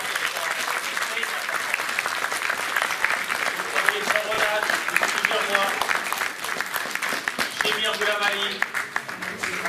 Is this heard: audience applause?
yes